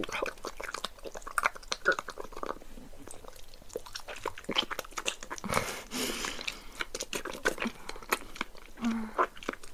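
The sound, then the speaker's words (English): Wet chewing and biting throughout, with crisp crunchy clicks and smacking mouth sounds in a steady, irregular rhythm, fairly loud, with no clear talking. “That's a good bite.”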